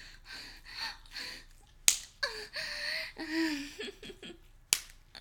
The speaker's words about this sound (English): Is that what you want? You want me to slap you?